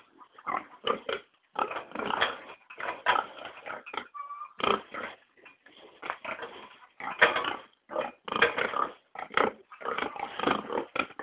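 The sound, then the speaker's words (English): A couple of little piglets grunt and oink repeatedly in the dark, a busy run of short snorting bursts with brief pauses, continuing steadily for several seconds without any talking. “A couple little piglets in here.”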